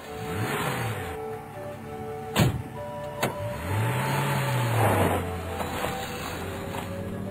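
At about 9 in the evening under moonlight, two sharp car door slams in quick succession as a doctor and Mustafa get into the car, then an engine starts up and revs, its steady rumble carrying on as the car pulls away toward town. Nobody speaks.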